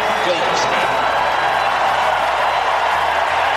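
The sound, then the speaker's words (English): A large crowd at Chase Field in Phoenix applauds and cheers for Paul Goldschmidt of the St. Louis Cardinals as he walks to the plate, a steady, dense roar of clapping that stays loud and even from start to finish, with a murmur of voices mixed in. “Here's the hand for Goldie as he walks to the plate.”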